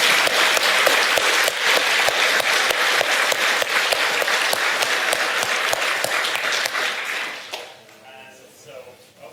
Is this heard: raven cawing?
no